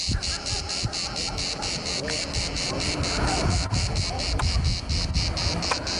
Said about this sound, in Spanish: ¿Las chicharras suenan siempre igual o la intensidad del sonido que emiten depende del calor que haga? Bueno, pues las chicharras o cigarras son tanto más escandalosas cuanto más calor haga.